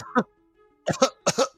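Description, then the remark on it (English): A person coughs: one short cough, a pause, then two quick pairs of harsh, hacking coughs in succession, with no talking. “Coughing.”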